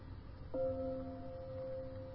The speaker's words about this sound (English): Like we often do, we can use the sound of the Tibetan bells to help us make that transition.